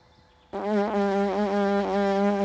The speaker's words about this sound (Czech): Sepněte rty úzce a vibrujte špičkama rtů. Když ten tón je vysoký, tomu říkám včelička.